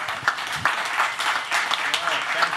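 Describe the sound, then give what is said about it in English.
An audience at the Soho Forum applauds Gene Epstein. Many hands clap at once in a dense wash, fairly loud and continuous throughout, with faint voices and scattered cheers mixed into the noise. “Another round of applause for Gene Epstein, everybody.”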